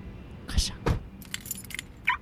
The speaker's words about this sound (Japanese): ちゃんと鍵をかけ。